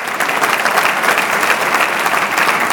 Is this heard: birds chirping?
no